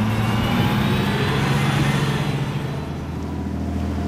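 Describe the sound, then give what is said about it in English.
A heavy bus engine rumbles steadily as the vehicle drives along, a loud, continuous low drone with a slight fade in the last second. No voices. “By bus?”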